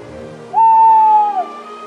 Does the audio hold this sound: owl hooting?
yes